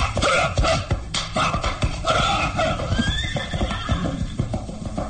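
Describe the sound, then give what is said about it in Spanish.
Horses, struck on the haunches, whinny loudly over a rapid, irregular clatter of hooves as they bolt off, the galloping thuds and neighs continuing throughout. “Golpea a los caballos en las ancas y...”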